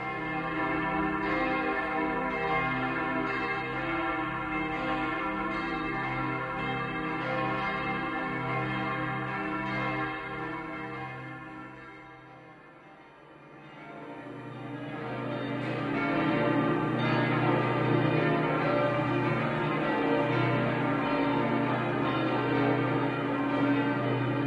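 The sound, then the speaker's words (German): A peal of three church bells, the fifth peal in the history of a six-towered church, rings continuously with overlapping, resonant strikes, dipping briefly in the middle before swelling back to full, loud ringing. No voices. “Derzeit verfügt das sechstürmige Gotteshaus nur über das Geläute einer Dorfkirche. Es ist das fünfte seiner Geschichte und besteht aus drei Glocken.”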